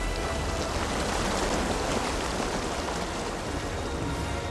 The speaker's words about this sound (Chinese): 这个时候屋外暴风雨总是继续，艾森豪威尔将军和其他将军商量第一是否要采取行动。